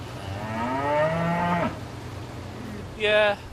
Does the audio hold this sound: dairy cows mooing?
yes